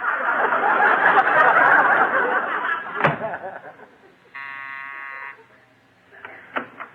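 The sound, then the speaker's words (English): After a stretch of loud laughter and a sharp thump, someone outside rings a doorbell again after the door is closed: one steady, buzzing ring lasting about a second. A few faint clicks trail after it. “Go outside, I'll close the door, and ring the bell again.”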